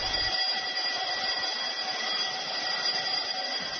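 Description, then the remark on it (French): A school bell at the lycée Arche de l'Unité in Bukavu rings at 10:30 to announce the start of recess: a bright, metallic clang, continuous, loud and steady for the whole stretch, with no pauses and no voices. “Cette sonnerie annonce les débuts de la récréation.”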